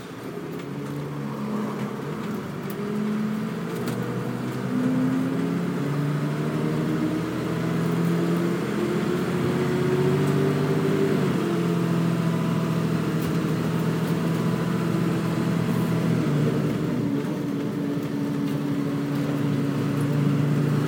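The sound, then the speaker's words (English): A double-decker bus engine drones steadily, heard from the lower deck near the front where the engine is, a loud low rumble whose pitch rises and falls as it accelerates and eases off, with no talking. “should also add that we're downstairs on this one, as opposed to upstairs on the last one, and we are near the front, which is where the engine is.”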